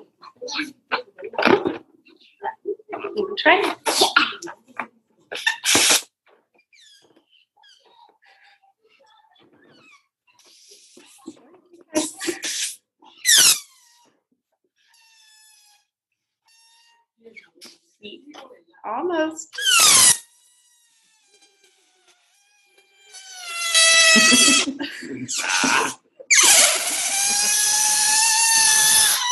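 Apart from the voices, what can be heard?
air escaping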